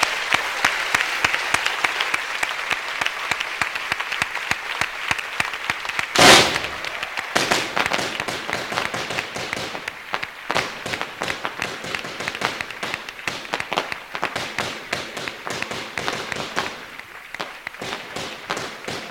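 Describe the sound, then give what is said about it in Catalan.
A small fireworks display in Sitges, set off on the slope down towards the bastion at the close of the festa major proclamation, goes off in a dense, continuous barrage of sharp crackles and pops, with one especially loud burst early on, and the rapid bangs keep going steadily to the end. “I un petit castell de foc darrere, a la baixada cap al baluard, il·lumina aquest final del pregó, il·lumina el cel de Sitges, que des d'aquest moment ja està oficialment en festa major.”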